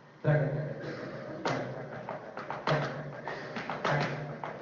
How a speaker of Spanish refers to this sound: Es el zapateo que nosotros hacemos en el cuadro de Impresiones de la Pampa, ¿no?